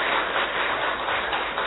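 A crowd claps steadily together to welcome a guest speaker, a dense, continuous patter of many hands at an even, moderate loudness with no voices over it.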